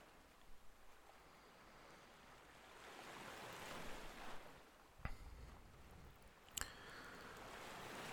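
Ocean waves lap against sand in a steady, hissing wash that swells and recedes, with soft wind in the background and a couple of brief sharp splashes near the end. No one speaks.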